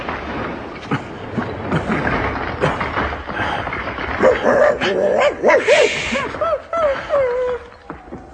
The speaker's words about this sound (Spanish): Deberías aprender a no ladrar.